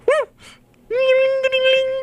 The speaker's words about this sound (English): That was a bark and a jingle of a collar.